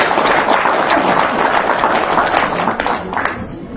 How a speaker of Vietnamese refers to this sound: Cho anh chàng pháo tay.